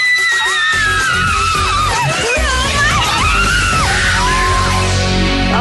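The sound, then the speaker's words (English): Several girls shriek and squeal excitedly as they look at their suite for the first time, high-pitched overlapping screeches that rise and fall continuously, loud, with some chatter mixed in. “Everything that they say, anything exciting, they just screech their little heads off.”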